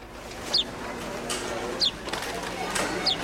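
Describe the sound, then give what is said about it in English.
A house sparrow gives three short, high chirps, evenly spaced about a second apart, moderately close and standing out over a steady background hiss. “Not all the smart house sparrows live in the southern hemisphere, however.”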